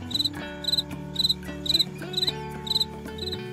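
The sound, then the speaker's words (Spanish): Crickets chirp in the countryside at night in steady, evenly spaced bursts of rapid high trills, about seven pulses over a few seconds, over a quiet low background hum with no voices. “Sí, son grillos. Es muy común escucharlos por el campo por las noches cuando todo es silencio.”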